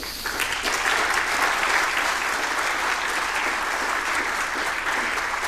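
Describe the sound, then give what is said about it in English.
An audience claps steadily for several seconds to thank the pretalx developers, a dense, sustained patter of many hands at fairly even loudness with no voices standing out. “And pre-talks was kind enough to develop this in like 2 weeks' time, so would love to give them a warm round of applause.”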